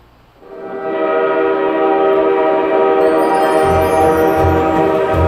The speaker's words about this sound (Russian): Их трели перебил зычный гудок приближающегося к станции паровоза. К перрону станции Кулунда подъехал длинный состав из темно-зеленых вагонов.